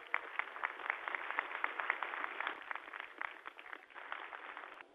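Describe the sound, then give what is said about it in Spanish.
An audience at a Colombian police graduation ceremony claps steadily for several seconds, a dense crackle of many hands with no voices, easing slightly near the end before picking back up. “La aplaudimos de corazón.”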